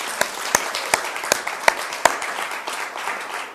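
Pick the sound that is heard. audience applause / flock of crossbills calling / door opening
audience applause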